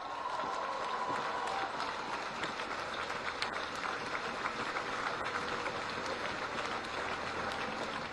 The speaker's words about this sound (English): So give her a round of applause again.